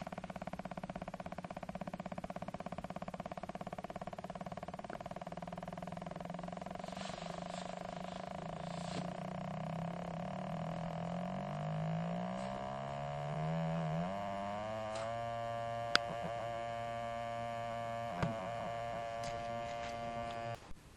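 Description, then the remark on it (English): A steady electronic humming tone from a sensor moved towards a door, with layered harmonics, starting lower and slow, then wavering and becoming louder, more intense and faster-pulsing as it nears the door, with a couple of sharp clicks near the finish, ending as the sensor touches the door. No one speaks. “and what you'll hear is at the beginning a lower pitched sound, and it starts out kind of slow, and then it gets louder, more intense, and faster as I get closer to the door, and then I actually touch the door with the end of the sensor.”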